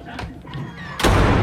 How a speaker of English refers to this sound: She slams the door in Honey's face.